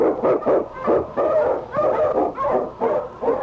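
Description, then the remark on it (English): King, a husky sled dog and Eskimo lead dog, barks and howls repeatedly in rough, rhythmic bursts, loud, with wavering yelps running together over about three seconds and no one speaking, as it blazes the trail through storm and snow in the Yukon. “On, King! On, you husky!”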